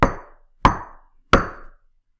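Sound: knocking on a door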